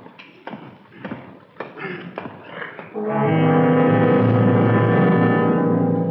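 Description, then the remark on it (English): A metal cell door is rattled in a quick, uneven burst of sharp clanks and knocks, then a loud, steady droning hum takes over and holds to the end. “If you feel sick, rattle your door like this.”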